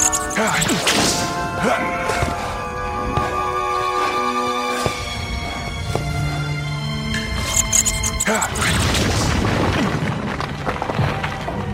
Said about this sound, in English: Well, that's a whip. Oh, it's Indiana Jones.